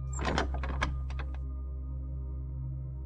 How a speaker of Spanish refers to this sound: Sigues avanzando y te encuentras con una cuarta puerta. ¿Qué habrá ahora al otro lado? La puerta se abre.